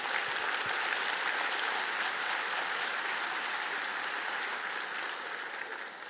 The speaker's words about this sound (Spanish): Un aplauso al Señor, a Él.